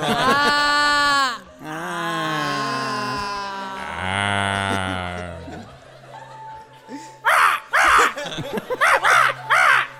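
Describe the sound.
A person imitates a crow, making drawn-out, falling caw-like vocal calls, followed by several short, sharp cawing bursts in quick succession.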